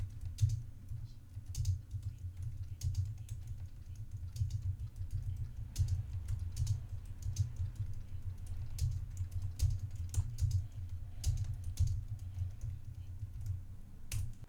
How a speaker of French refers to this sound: Je vous propose, si vous le souhaitez, de faire une petite saisie au clavier pour que vous entendiez le bruit et l'isolation de cette capsule.